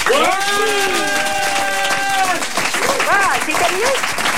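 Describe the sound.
A crowd applauds a prize winner, clapping steadily and loudly the whole way through, with excited voices cheering and whooping over the dense wash of applause.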